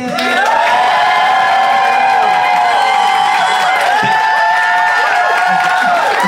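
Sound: audience applauding and cheering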